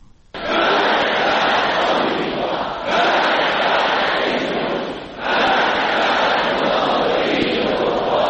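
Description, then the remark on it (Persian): A large crowd loudly chants the political slogan "Death to America" in unison, the roar of massed voices rising in three long, sustained surges separated by brief dips. “مرگ بر آمریکا، این شعاری است که از آغاز انقلاب اسلامی در ایران شنیده شده و اکنون حدود 37 سال بعد فرمانده کل ارتش ایران میگوید این شعار به عنوان شعار ملی همیشه باقی خواهد ماند.”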